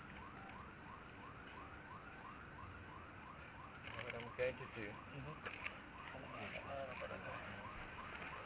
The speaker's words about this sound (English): Alarm? It's not too bad. I think we'll be able to live with it. Oh, no, when we boost it. Let's wait a minute for the alarm.